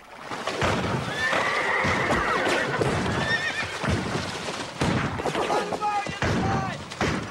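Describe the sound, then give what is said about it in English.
Horses whinny repeatedly in a dense, chaotic scene as soldiers crouched behind boulders on a river shore fire pistols into the trees, sharp shots cracking at irregular intervals, with hooves clattering and thuds mixed through the loud, busy din. “Longacre leaps off his horse and joins the first of his men behind the boulders, firing with his pistol.”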